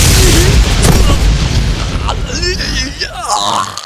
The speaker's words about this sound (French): Il vient de lancer un éclair sur Gorn. On se tire.